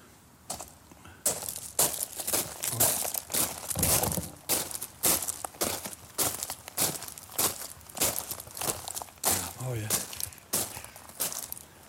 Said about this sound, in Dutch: Nou, ik vind niks mooier dan lopen door grind. Ik hoop dat ik geen mensen wakker maak als ik nu toch even door het grind ga lopen. Even proberen hoor.